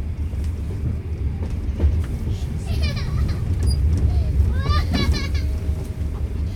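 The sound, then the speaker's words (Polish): Steady low rumble of a moving passenger train carriage, whose passengers are mostly lone women with children and large families, fills the whole recording, with children's voices and chatter rising briefly over the drone midway through. “Większość pasażerów pociągu to samotne kobiety z dziećmi lub wielodzietne rodziny.”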